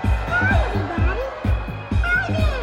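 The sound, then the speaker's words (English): A crowd of three-year-olds shrieks and shouts with high, excited voices over a steady, thumping dance beat in a gym at Fort Drum, upstate New York, as a performer in a life-size Elmo suit leads them in the Elmo slide, a version of the electric slide. “The red furry Muppet leads a crowd of screaming three-year-olds in a version of the electric slide, the Elmo slide.”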